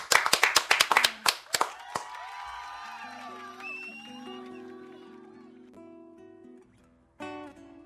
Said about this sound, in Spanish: un aplauso